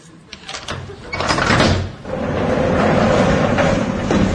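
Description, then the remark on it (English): A door is unlocked with a key and pushed open, with a short metallic rattle and a rising scrape, then a long, steady sliding rumble as it keeps moving, fairly loud. “Is the key in there? Aye, it is. Now for the door.”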